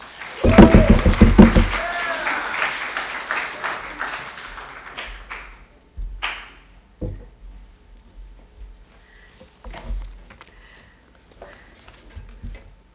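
An audience breaks into loud, dense applause that peaks quickly, then thins into scattered claps and fades over several seconds, followed by a few soft knocks and rustles.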